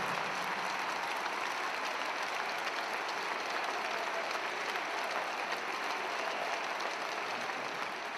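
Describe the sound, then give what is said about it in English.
Steady, dense applause from a crowd celebrating the Hillside, a continuous wash of many hands clapping at an even loudness for several seconds with no voices standing out. “Now let's hear that applause and we celebrate the Hillside.”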